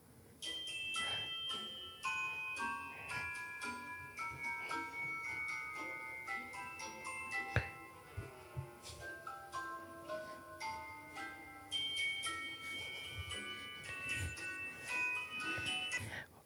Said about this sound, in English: I just like my ringtone. Can you call my phone so everyone can hear my ringtone? Yeah, your ringtone's pretty epic. Yeah, you have to hear this.